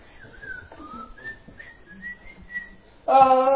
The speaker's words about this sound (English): Tomorrow go to work and have a big old smile and be whistling.